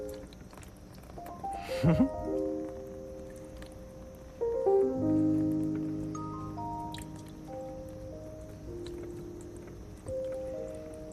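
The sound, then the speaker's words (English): Water is poured onto a small toy water wheel, making the wheel turn, with splashing, trickling, dripping and sloshing sounds, while faint tonal humming or background voices carry on underneath. “Now, all that we've been doing here, the food coloring mixing with the water, and the water wheel moving when I put the water on it, you know, the wheel going around, all of those things are part of science.”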